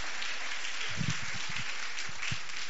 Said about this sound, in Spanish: Todos, quisiera que empezáramos esta tarde y continuáramos con nuestro tiempo de adoración al Señor, dándoles un aplauso a todos los familiares y amigos que hoy visitan a los que se van a bautizar. Vamos a darles un fuerte aplauso.